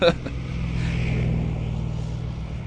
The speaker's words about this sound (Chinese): 陈勇的车没开出去多远，他就一脚踩在刹车上，后面的车队立即停下来